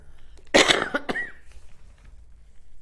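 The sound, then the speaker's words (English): A loud cough bursts out in two quick explosive hacks, followed by a brief throat-clearing rasp, then quiet room tone with no talking. “I have to take a cough.”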